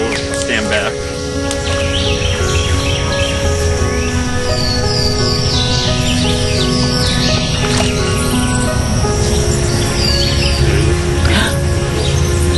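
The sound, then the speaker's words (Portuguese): Bright warbler song played from a loudspeaker to call the bird into a net, ringing out in repeated chirps and quick rising trills, fairly loud, running continuously over a steady low background hum. “Deixo a caixa de som bem aqui. No canto vai chamar o pássaro, que vai cair aqui na rede.”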